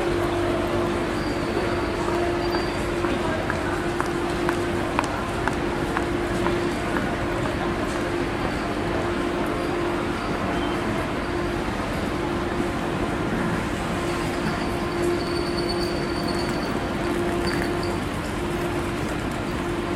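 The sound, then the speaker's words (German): Busy platform at Kiel Hauptbahnhof in the evening after 7 pm as an ICE train arrives and people leave the platform: a steady low hum from the standing train, many footsteps shuffling past, indistinct crowd murmur, and a few faint high-pitched squeals. “Abends nach 19 Uhr kommt ein ICE an und die Leute verlassen den Bahnsteig und verteilen sich im Bahnhof.”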